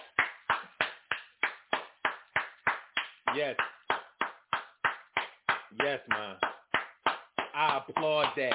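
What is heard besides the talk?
hands clapping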